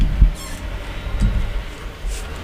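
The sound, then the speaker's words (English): A truck rolling past outside: a steady low rumble with two heavier thuds and a faint, airy hiss riding above it. No one speaks. “What is that sound? It's a truck outside.”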